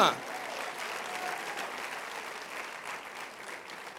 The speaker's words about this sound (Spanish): Oh my God, usted tendría que aplaudir más fuerte, por favor.